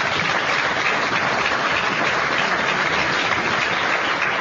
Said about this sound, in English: How about a big round of applause for our panel?